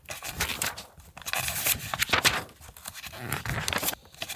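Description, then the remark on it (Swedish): Pornographic magazine pages being leafed through, a steady series of papery rustles, flicks and crinkles coming in quick irregular bursts, with no voices. “Medan Jonny bläddrar bland Jormas porrtidningar”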